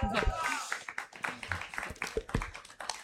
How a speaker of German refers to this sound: Ich lade euch einmal ein für einen herzlichen Applaus, weil es nicht einfach ist, vor so einem Publikum über dieses Thema zu sprechen.